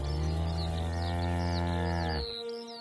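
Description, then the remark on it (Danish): A single long, deep, loud cow moo holds steady for about two seconds and then cuts off, while small birds chirp lightly in the background. “Eller måske endda en god græsmark, hvor ens køer kan bo.”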